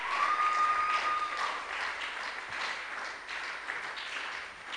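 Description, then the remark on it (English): A crowd claps steadily, a dense, continuous wash of applause that holds at a fairly even level throughout, with a brief faint whistle-like tone near the start. “Oh, keep clapping, keep clapping, keep clapping.”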